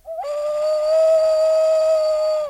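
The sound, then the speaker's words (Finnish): A child blows hard into a whistle, one long, steady, loud blast for over two seconds after a brief lower start, holding a pure tone before cutting off abruptly. No one speaks. “Yritä ihan tiukkaan, tarkkaan puhaltaa sinne pilliin.”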